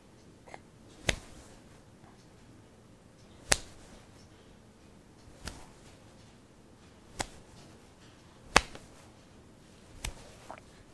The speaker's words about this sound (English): You want to do it? Since you keep clapping my hands, can I clap yours? One, two, three.